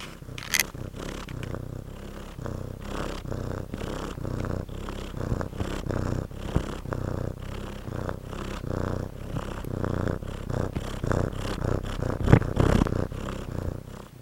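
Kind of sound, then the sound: animal, cat purring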